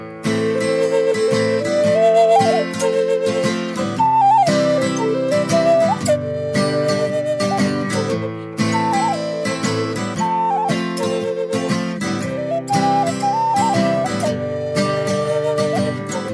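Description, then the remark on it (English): A Native American style flute plays a slow, breathy melody of held notes with small upward bends, carried over a steady, full instrumental accompaniment throughout, with no voices. “you're supposed to say Native American style flute.”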